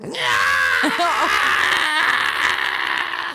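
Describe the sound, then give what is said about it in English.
A man lets out a loud, strained scream lasting about three seconds, raw, with a brief catch in the middle before it carries on at full force. “He's not happy. He screamed.”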